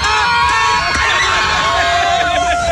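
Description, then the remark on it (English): A loud outdoor crowd at a Froggy 101 radio tailgate cheers and whoops after a man plays a hammer game, a dense wash of overlapping voices and shouts holding steady for a few seconds. “I'm not sure if what he did was good, but the crowd reacted to it.”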